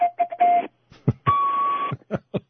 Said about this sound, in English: That's the feeblest foghorn I ever heard. Well, actually, it's a legitimate one. I'm not really blowing it the way it should be blown. It was actually used on 19th century ships.